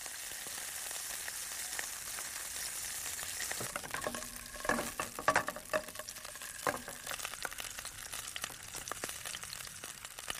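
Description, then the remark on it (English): Sausages and onions sizzle steadily in a pan heated by sunlight reflected from mirrors on a Sol 4 solar cooker in South Africa, a dense crackling hiss with occasional sharper pops and a few clinks of a utensil stirring midway. “Within 2 minutes, the sunlight has heated the pan so much that sausages and onions are sizzling away.”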